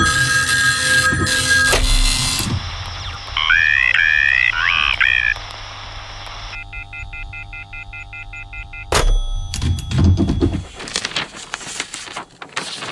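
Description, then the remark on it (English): A fax machine and a telephone at radio station WSQK The Squawk go off at the same time: steady electronic tones, warbling high chirps, then a run of rapid pulsing beeps, ending in loud bursts of harsh static-like screeching. “Is that our fax machine and our phone going off?”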